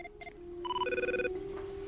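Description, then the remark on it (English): A telephone rings with an electronic warble as a call comes in: short tonal bursts shifting in pitch over a steady underlying tone, moderately loud, with no one speaking. “Edgar dials from the nearest phone.”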